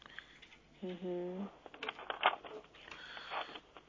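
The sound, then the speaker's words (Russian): A short hummed vocal sound, then a run of crisp, crinkly bursts as someone shuffles and rustles through many papers looking for a document, quick irregular handling noises that rise and fall. “Нет, слушайте, у меня здесь столько бумаг, и чтобы вот что-то найти, это надо время на это.”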